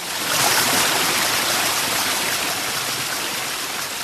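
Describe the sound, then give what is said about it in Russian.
A steady, fairly loud rush of flowing water, like a stream pouring along, as the water recedes with the first rays of sunrise, continuous and unbroken for the whole few seconds with no voices. “Первыми солнечными лучами ушла вода.”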